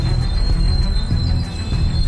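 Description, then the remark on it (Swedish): The wheels of a line 7 tram rolling backwards down Aschebergsgatan in Gothenburg screech metal on metal in one thin, steady, high-pitched squeal that holds for the whole stretch above a loud, churning low rumble. No voices are heard. “Metall mot metall, gnissel som övergår i tjut.”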